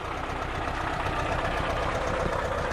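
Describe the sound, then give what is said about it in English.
The air-cooled engine of a Volkswagen bus idles roughly, chugging along with a dense, rumbling low-end pulse and a broad mechanical rattle, continuous and fairly loud throughout, with no voices. “Now here, a brief pause as we respectfully recall its air-cooled engine at idle.”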